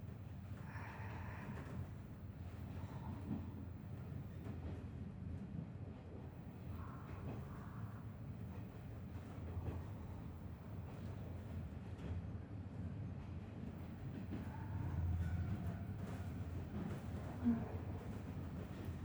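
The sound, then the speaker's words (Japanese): Passenger train cars roll steadily along the rails, a continuous low rumble with faint rhythmic clicking and occasional higher tonal whines and squeals, swelling slightly louder near the end. “客車そのものの立てる音を、レールの歌う声を楽しみたいなら、ディーゼル牽引の方がいい。”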